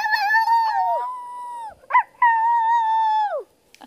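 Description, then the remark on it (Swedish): A person imitates a wolf howl twice: a long, steady, wavering vocal howl that trails downward, a brief yip-like break, then a second sustained howl, fairly loud with no other talk. “Är du mästare på sånt? Om hur vargarna låter? Få höra då.”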